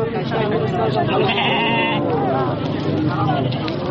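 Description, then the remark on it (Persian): A dense chorus of sheep and goats bleating continuously, overlapping cries with a murmur of people talking in the background, at the Ganj Bazaar livestock market on the outskirts of the city of Frisco, where herders bring goats, sheep and cattle to sell. “ده ها مالدار چارپایانشان مانند بز، گوسفند و گاو را عمدتاً به علت خوش‌سالی برای فروش به گنج بازار در حومه شهر فریسکو آوردند.”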